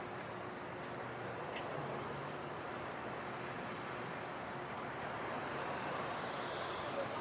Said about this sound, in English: But this is weird, man, because it's like taking up half of the street. This is a two-lane, busy, super busy street, and Waymo's taking up half of it.